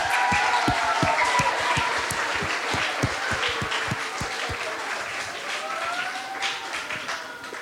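A crowd breaks into sustained applause, dense overlapping claps filling the space at a steady, fairly loud level for several seconds, with faint voices and cheers mixed underneath.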